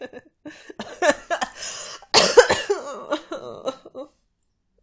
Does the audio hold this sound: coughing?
yes